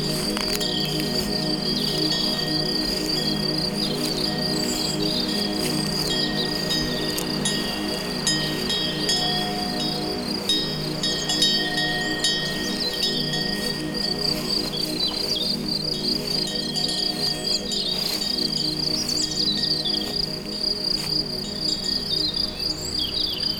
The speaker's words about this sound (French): Beaucoup de grillons, d'insectes. Le chant des oiseaux diffus. Le décor est posé.